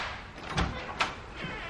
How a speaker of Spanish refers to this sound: Tiene una puerta cerrada con cristal esmerilado color ámbar. Se enciende la luz tras la puerta. La viuda abre la puerta y entra en la habitación.